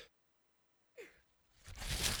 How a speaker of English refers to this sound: You'll have to excuse me. You can tell I have a cold just from the way my voice sounds. So a sneeze came up on me right there.